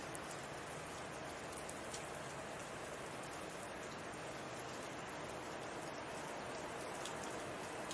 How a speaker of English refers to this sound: Do you hear the river? It's roaring. It's like a motorway.